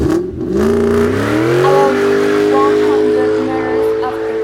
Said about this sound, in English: he played with the wires and was able to start the car.